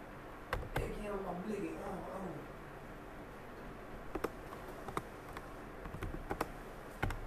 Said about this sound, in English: Ooh, I'm typing with one hand and it feels weird.